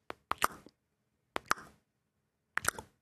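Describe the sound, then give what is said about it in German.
A smartphone, set to vibrate at maximum with each keypress, buzzes as a message is typed: three clusters of two or three quick, sharp pulses, separated by brief pauses, with no talking. “Das hört sich jetzt vielleicht komisch an, aber du hast dein Handy natürlich so eingestellt, dass bei jedem Tastendruck maximal vibriert.”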